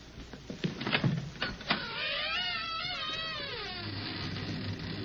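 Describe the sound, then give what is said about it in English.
An old door to an old attic in an old house creaks open: a few dull clunks and rattles, then a long, wavering, high-pitched groan of the hinges that rises and falls for about two seconds before fading into a low hum. “Door.”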